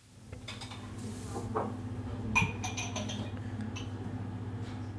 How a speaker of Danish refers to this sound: Frokosten her på Hospice Sjælland er ved at være slut. Der er et par køkkenassistenter, som sætter bestik på plads.